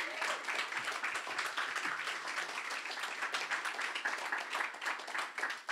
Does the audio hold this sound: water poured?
no